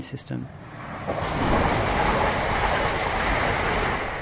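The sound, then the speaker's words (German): A computer-simulated, fully virtual train rolls by on the rails, its broad, steady rumble swelling after about a second and holding as a loud roar. A brief voice sounds at the very start. “Stattdessen erschafft das Team von Maillard die Bahn von Grund auf im Rechner, ein komplett virtueller Zug.”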